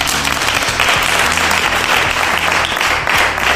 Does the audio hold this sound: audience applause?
yes